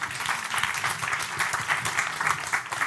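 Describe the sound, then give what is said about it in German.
A church audience claps steadily, a dense, continuous patter of many hands with no pauses and no voices over it. “Aber ja, also jetzt klatschen sie, aber wenn, ja, nee, das ist auch gut, ne?”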